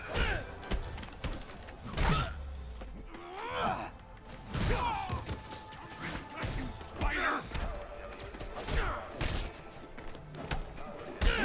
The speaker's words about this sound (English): Okay, er klopft.